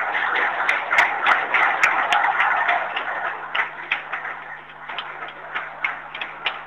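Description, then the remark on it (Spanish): A crowd applauds warmly for a 93-year-old master artisan potter from the city of Aregua as he is called up: a dense, steady wash of many hands clapping that thins toward the end into sparser, more distinct individual claps. No one speaks. “Un fuerte aplauso.”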